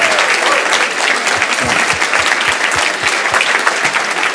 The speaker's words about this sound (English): So can we give a huge, huge round of applause to Brian Tracy?